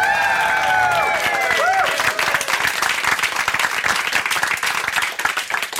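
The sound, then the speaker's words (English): A small studio audience at the BBC headquarters on Beechgrove Terrace, Aberdeen, bursts into loud, sustained applause during an Out of Doors special marking 100 years of BBC broadcasting in Aberdeen. High whoops and cheers rise and fall over the clapping at first, then dense, steady clapping carries on to the end. “And we're delighted to be joined by a small and rowdy audience here at our current BBC headquarters in Aberdeen at Beechgrove Terrace.”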